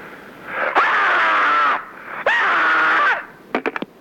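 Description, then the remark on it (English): Two long, loud human screams, each held for about a second with a short pause between, followed by a quick series of short, sharp bursts at the end. No talking. “Meanwhile, to add to your screamscape”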